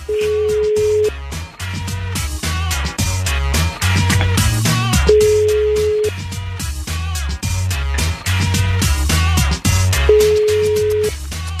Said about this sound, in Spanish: Pues vamos a marcarle a su celular, mija, a ver si contesta.